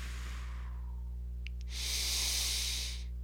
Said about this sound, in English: Simply giving yourself permission to relax into your body, breathing out all the way and relaxing as you take a deep inhale breath.